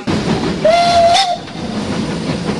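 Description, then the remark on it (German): A steam locomotive of the Furka steam railway sounds its whistle once, a steady tonal blast lasting under a second, over a constant loud hiss of escaping steam that continues after the whistle stops. “Es sei eine grossartige Sache, hier bei dieser Dampfbahn mitzumachen.”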